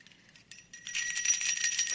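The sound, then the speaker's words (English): Jingle bells start shaking after a brief quiet moment, building into a bright, continuous metallic shimmer that grows louder and stays busy to the end, with no voices. “The jingle bells of joy represent the joy of the Lord that fills our souls and gives us strength as a result of receiving Jesus Christ as our Savior.”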